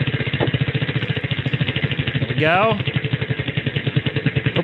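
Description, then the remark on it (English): A prize wheel spins with a rapid, steady run of clicks that continues throughout, while a person speaks briefly partway through. “All right, let's spin the wheel quick and see what you win.”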